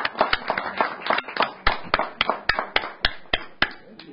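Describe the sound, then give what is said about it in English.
An audience applauds the students for coming tonight, a quick, uneven run of sharp, crisp claps that keeps up at a steady pace for a few seconds. No one speaks. “You may now pass us what you'd like to, and we want to give you a round of applause for coming tonight.”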